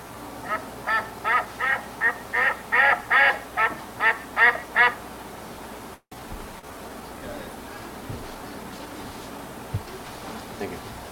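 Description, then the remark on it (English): A rapid, steady series of about a dozen loud, nasal quacks from ducks being rounded up over the first five seconds, then they stop, leaving only faint background noise and a few soft thumps. “So with the ducks rounded up, that concludes our little exercise.”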